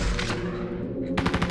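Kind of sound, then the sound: sound effect, video game gunfire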